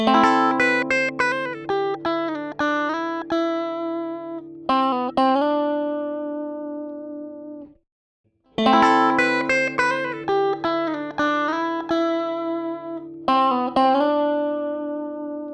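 A plucked, tonal musical phrase with sharp attacks and sustained harmonics plays dry, pauses briefly, then repeats with added ambience reverb that widens it without a noticeable tail.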